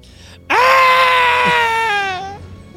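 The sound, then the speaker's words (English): A person lets out a single high-pitched, gurgling scream, loud, held for about two seconds before dropping in pitch and cutting off, a voice acting out the cry. “And faintly in the distance, they hear a high-pitched, gurgled scream.”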